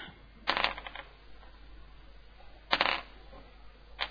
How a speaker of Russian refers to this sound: Чего ты там кидаешь? Кубики кидаю.